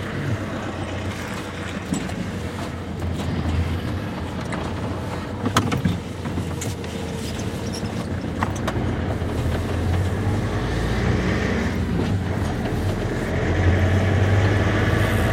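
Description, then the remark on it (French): A fisherman's truck engine runs steadily, a continuous low rumble with a few scattered clanks and knocks, swelling slightly louder toward the end with no voices. “Camion de pêcheur, hein.”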